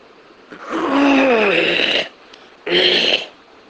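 A person clears their throat twice: a long, rough, rasping rumble, then a brief pause and a shorter, harsher second clearing. No words are spoken.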